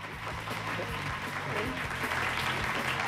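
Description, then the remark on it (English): A group of girls at a strip club applauding two men as they arrive, a steady, dense patter of clapping that holds at an even level throughout, with faint voices mixed in underneath. “All the girls applaud them, and after looking shocked, they wave excitedly.”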